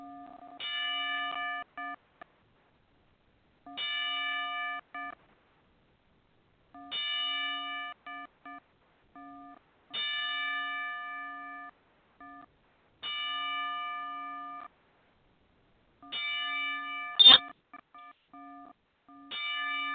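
A wrestling ring bell struck slowly and evenly, about every three seconds, each clang ringing out briefly before fading into silence, heard alone in a solemn ten-bell salute for wrestler and promoter Rob Kincaid.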